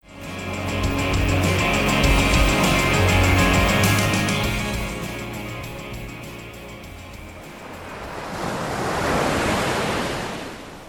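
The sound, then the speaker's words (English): Ocean waves roll onto a beach in a steady broad hiss, swelling into a fuller rushing surge near the end before fading slightly. No one speaks. “I want you to imagine standing on a beach, watching the waves just roll on in.”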